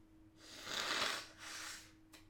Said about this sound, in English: I really want to blow my nose. Hang on.